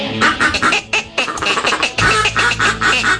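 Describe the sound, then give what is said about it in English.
Rapid, loud duck call quacking on the Great Outdoor Radio Show, a steady run of raspy honking quacks in quick rhythmic bursts, with no talking. “Little duck call action.”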